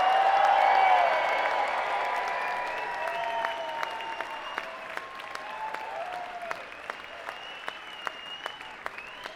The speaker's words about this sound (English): Well, all right, everybody, come on, one more time. Scream, everybody, scream. Let's hear it. Now you gotta scream for yourselves, because it's all about you. Go, scream, let's hear it.